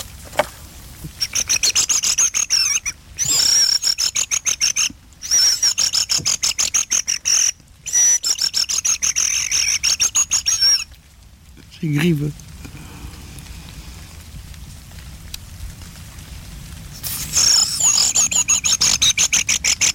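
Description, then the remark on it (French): High, rolling trilled whistles of thrushes come in several loud bursts separated by short pauses, with a brief low rustle in the middle and a faint background hiss throughout. “Non, c'est des grives.”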